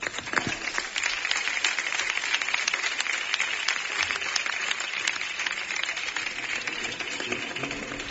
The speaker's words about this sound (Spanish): presidente de esta sociedad del Casino de Rociana, al que yo desde aquí ya les pido a todos un aplauso por el trabajo que hacen.